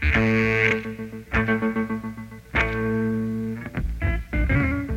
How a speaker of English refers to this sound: Now let's listen to the echo effect.